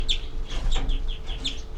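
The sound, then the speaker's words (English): A bird gives an alarm call: a series of short, sharp, repeated calls, several quick notes in succession, distinct over a low, steady background rumble. “327, alarm by 3-3.”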